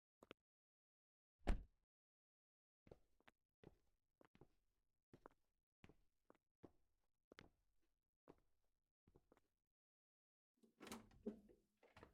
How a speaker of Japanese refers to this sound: 歩かされて、ドアの音がしたから、建物の中。